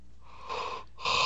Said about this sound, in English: I'm not yawning loud on purpose, I promise. I swear.